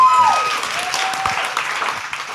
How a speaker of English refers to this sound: Let's give Caroline a round of applause one more time.